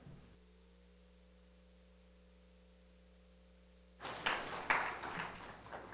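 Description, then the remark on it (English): A steady low electrical hum plays alone for about four seconds, then an audience breaks into applause as a guest speaker is welcomed, a dense, loud patter of many hands clapping that carries on to the end. “I like you more than my church already. They never clap for me.”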